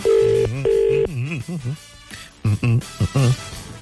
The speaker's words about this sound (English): All right, we're ringing.